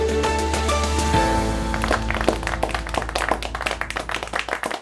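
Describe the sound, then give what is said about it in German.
Applause breaks out after a held musical chord, a dense patter of many hands clapping that carries on steadily to the end while faint tones linger underneath. “Am Ende gab es Applaus und ein gemeinsames erleichtertes Aufatmen bei den teilnehmenden EU-Finanzministern.”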